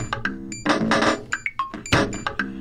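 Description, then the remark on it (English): Sliding electronic doors slam shut in a run of loud mechanical clunks and rattling bursts, with brief high beeping tones and whirring between the impacts. “The doors, they slammed shut.”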